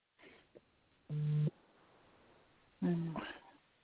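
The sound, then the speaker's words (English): A phone vibrates as two short, low buzzing tones, each about half a second long, separated by a pause of over a second, with faint murmuring in the background. “I heard somebody's phone vibrate or something.”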